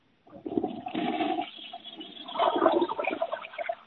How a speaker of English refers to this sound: Did you hear the toilet flush?